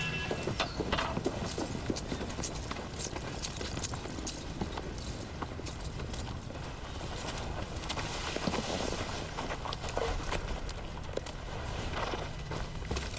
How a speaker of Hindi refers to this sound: कुछ घोड़े सवार इस तरफ आ रहे हैं। ऐसा करो, तुम लोग बाहर जाकर देखो, मैं आती हूँ।